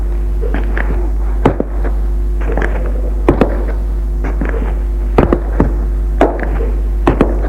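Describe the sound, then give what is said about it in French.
Dull knocks on an upstairs door of a room holding papers, irregular and sometimes doubled, repeating every second or so over a steady low hum, with no voices. “Derrière la pièce où il y a ses papiers, frappe à la porte.”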